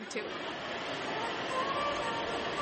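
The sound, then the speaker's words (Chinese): Model trains whir steadily along their track at a holiday model train exhibition, a continuous mechanical hum with faint clicking and a thin tonal whine, with a soft murmur of voices in the background. “He likes that the trains are moving, and he can see the trains.”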